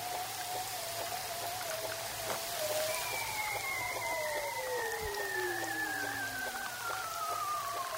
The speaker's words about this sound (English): And those male bearded seals are hanging vertically in the water with their heads down, singing in the darkness below the sea ice to retain their harem of females.